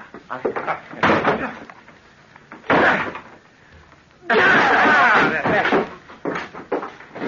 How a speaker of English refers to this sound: Open the door. It's locked. Then break it down.